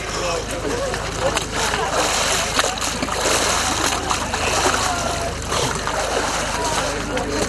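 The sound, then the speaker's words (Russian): Steady water splashing and churning from people plunging into an Epiphany bathing ice hole, cut in ice about 80 cm thick and no deeper than 1.5 m, with a murmur of voices and crowd noise running continuously underneath; over 10,000 people bathe in unusually warm holiday weather. “Проруби для крещенского купания делают только в тех местах, где толщина льда достигает 80 сантиметров.”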